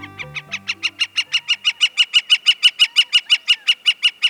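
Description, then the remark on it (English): A gilded flicker, a large tawny woodpecker, atop a saguaro cactus in the Arizona desert, calls a long, rapid string of loud, evenly spaced notes that build slightly in strength, alone, with a brief low musical tone fading out at the very start. “The bird is a gilded flicker, and the cactus is a saguaro, the tall cactus with upswept arms emblematic of the Arizona desert.”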